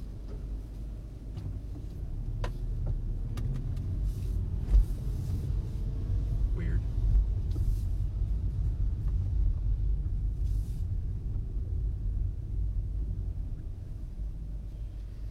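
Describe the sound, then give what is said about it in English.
Cars rumble through an alley, a steady low engine drone that swells slightly with a few faint clicks and knocks scattered over it, no one talking. “are there a billion cars in this alley?”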